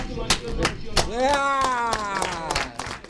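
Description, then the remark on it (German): Scattered, sharp hand claps ring out over a crowd cheering at the local party headquarters of the Romanian Social Democrats in Timișoara (Temeswar), western Romania, at 9 pm local time, with one loud voice rising into a sustained whoop in the middle. The noise stays loud and lively throughout. “Jubel kommt auf in der lokalen Parteizentrale der rumänischen Sozialdemokraten in Temeswar.”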